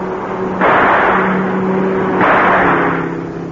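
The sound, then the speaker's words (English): A car carrying a man with a gun drives past with a steady low engine hum, swelling twice into loud rushing whooshes that fade slightly between them. No voices. “The man in that car, he's got a gun.”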